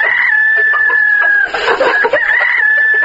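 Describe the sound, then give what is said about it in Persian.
A steady high-pitched tone sits over a busy flock of chickens clucking and squawking at a poultry farm for women in Sar-e Pul province, Afghanistan, with a rooster-like crow rising in the middle, loud, no talking. “از بخش فرم های پرورش مرغ و گوی شیری”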